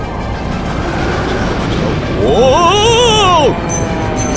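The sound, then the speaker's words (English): An airplane roars through a storm, a dense, steady rush of wind and engine noise throughout, with a brief rising-and-falling whine swelling louder near the middle before settling back. “Don't you think you ought to try to land the plane first?”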